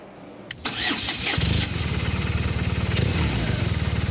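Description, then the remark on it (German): A volunteer traffic-jam helper's motorcycle engine cranks with a whirring starter, catches, and settles into a steady, throbbing idle with a fast regular pulse, fairly loud, before he rides off into a motorway traffic jam. “Wolfhard Ehrlich schmeißt seine Maschine an und dann geht's ab in den Stau.”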